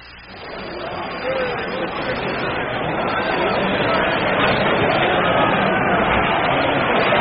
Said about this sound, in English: The first hitter in the last half of the seventh inning after that seventh inning stretch by this big crowd here is going to be the leadoff man, Bobby Avila.